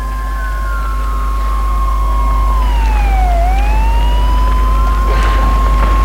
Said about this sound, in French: Le portail s'est ouvert, les voitures s'engouffrent.